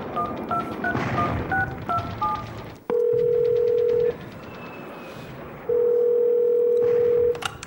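A quick series of satellite phone keypad dialing beeps, followed by two long, steady electronic ringback tones with a pause between them, heard clearly with no one talking.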